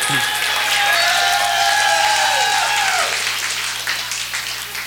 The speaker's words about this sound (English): Mr. Reggie McBride, bass. He's got his new outfit on tonight, so you gotta applaud extra.